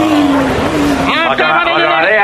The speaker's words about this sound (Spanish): Ahí está, ojo que llega el autobús, va a llegar, 3, 2, 1, ¡topa!